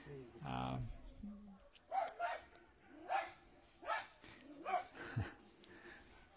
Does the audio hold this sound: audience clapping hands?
no